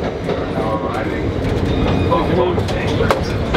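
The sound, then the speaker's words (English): A passenger train, Amtrak train 64 with engine 111, rolls along the rails with a steady, loud rumble and rattling wheel noise throughout, while faint muffled voices drift underneath. “Amtrak train 64, the engine 111, located apart at Buffalo Exchange.”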